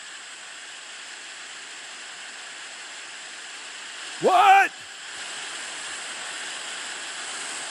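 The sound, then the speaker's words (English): Steady, hissing radio static runs unbroken for several seconds at an even level, briefly interrupted by a single short spoken word before the crackly noise continues. “So many of us, we have that static. And we're trying to listen to God's voice. But that static is interrupting what he's saying.”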